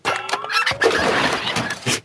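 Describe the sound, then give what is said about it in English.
A car engine cranks and starts with a harsh, noisy roar and a rising whine over about two seconds, fairly loud, with no voices. “That sounds like Tim's car back in the day. Yeah, it sounds like my car now.”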